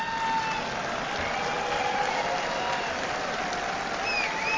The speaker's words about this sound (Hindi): ये दम वाली क्यों नहीं थी, ये ताली दम वाली क्यों नहीं थी, उसका कारण है क्योंकि आप 5 लाख की रेंज के बाहर हैं।